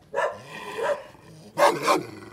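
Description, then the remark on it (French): A large Pyrenean mountain dog, a big shepherd dog, barks and growls: a couple of rough, throaty sounds followed by a louder burst of two barks, with no voices. “Pauvre chien, il est pour rien, lui, hein.”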